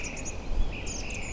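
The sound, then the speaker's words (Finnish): A European robin sings a thin, high, fragile song of short wavering phrases over a faint steady background hiss, the notes sounding delicate. “juuri tämä kireä ääni, joka, tai hieman kireän tuntuinen ääni, mutta se on hauras.”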